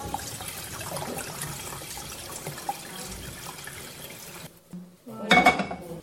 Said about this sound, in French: C'est très chaud. Regarde là, qu'est-ce que je fais? L'huile. Allez, t'entends que ça crépite?